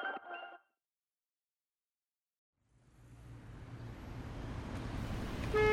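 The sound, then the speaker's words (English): A brief horn-like tonal blast, then silence, followed by the idling rumble of stuck, unmoving traffic that swells steadily louder, with another horn tone sounding near the end. “This traffic is not moving, and I'm stuck.”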